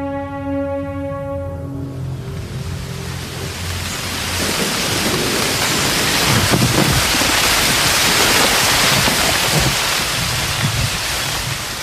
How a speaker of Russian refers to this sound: Разразившийся ночью ураган принес с собой разрушительные силы ветер и ливневые дожди.